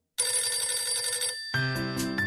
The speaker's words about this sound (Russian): У меня зазвонил телефон.